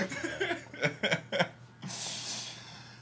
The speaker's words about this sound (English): Yeah, I just coughed, but you know what?